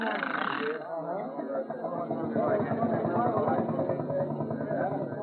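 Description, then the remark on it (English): A steam engine, fired up in a town square full of people, starts with a brief rush of hissing steam, then settles into a steady, rapid chugging rhythm that runs continuously, with a faint murmur of voices underneath. “The steam engine! engine is all fired”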